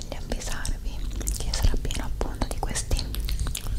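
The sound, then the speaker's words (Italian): Soft, breathy whispering by a woman with a constant stream of wet mouth clicks, lip smacks and tongue sounds, quiet and intimate, from an ASMR video, with no clear spoken words. “Sarà piena appunto di questi suoni della bocca.”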